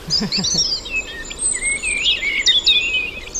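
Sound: common blackbird song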